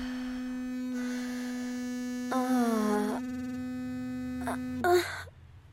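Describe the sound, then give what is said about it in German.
A Womanizer vibrator placed at the clitoris buzzes with a steady electric drone throughout, briefly joined by a wavering higher tone midway and a couple of short sharp noises near the end before cutting off. “Er vibriert.”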